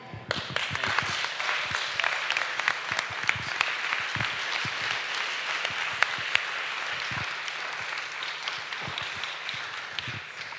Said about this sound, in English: Really, really good. Clap again, please. That's brilliant.